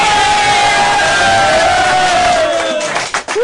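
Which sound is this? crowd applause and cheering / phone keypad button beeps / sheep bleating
crowd applause and cheering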